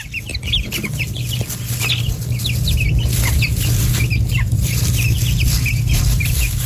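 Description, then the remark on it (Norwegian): Chicks in a hen yard cluck and peep softly in a busy, overlapping chorus as they walk around foraging and keep contact with each other and their mother. Short repeated calls are scattered throughout over a steady low rumble of farmyard background, no talking. “Her hører vi kyllinger, og dette jo fornøyde kyllinger som går rundt og bare holder kontakten med hverandre og moren”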